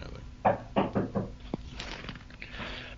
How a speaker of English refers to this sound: I thought you were going to answer the door. Okay. No, I'm trying not to. So that appropriate door knocking sound probably means that it's time to end this episode, so we are going to do that.